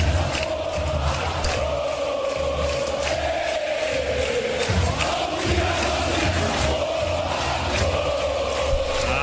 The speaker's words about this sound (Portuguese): E a torcida fez uma música sobre esse tema, essa pauta, né? Vamos acompanhar.